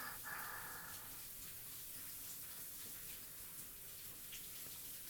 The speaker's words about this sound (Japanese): 君、後ろに立てば一緒にシャワー浴びれるぞ。暖かくて気持ちいいな。